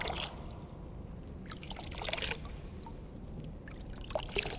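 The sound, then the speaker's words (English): Water trickles and pours in uneven splashes during a baptism, with brighter bursts of dribbling over a steady low rumble, fairly quiet, with no voices. “The sound of water during a baptism.”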